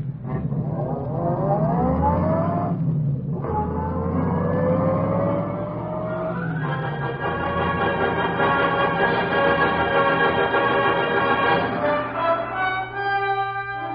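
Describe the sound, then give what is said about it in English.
A car engine roars up through rising revs, briefly dropping between gear changes, then settles into a loud, steady drone as the vehicle pulls away. No one speaks. “Never mind him. Get this crate going, quick.”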